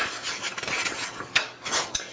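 A woman folds a blanket: soft, continuous rubbing and swishing of fabric, with a couple of brisker brushing accents partway through and near the end, and no voices.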